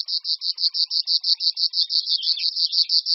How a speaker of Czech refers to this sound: Hlas cvrčilek je nápadný především v noci, kdy v přírodě utichá celá řada jiných hlasů. Pokud bychom měli to štěstí a dostali se do blízkosti zpívající cvrčilky říční, vidíme, že sameček obvykle vysedává na nějakém vyvýšeném místě,